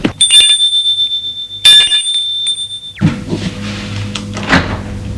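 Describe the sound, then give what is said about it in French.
A bright, high-pitched doorbell at the left-hand apartment door on a second floor rings twice, the second ring held steadily for over a second before cutting off into a muffled clatter and low rumbling noise. No one speaks. “Et elle va sonner à la porte gauche.”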